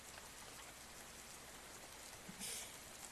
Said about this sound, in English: I love hearing the sound of the rain in the morning. It's so relaxing. Hearing the rain fall on the roof.